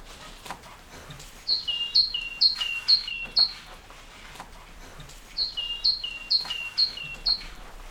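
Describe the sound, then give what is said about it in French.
A great tit sings its bright, see-sawing two-note phrase, repeated about five times in two quick bursts separated by a short pause, clear with no voices. “La maison charbonnière. Oui, tu connais bien les oiseaux.”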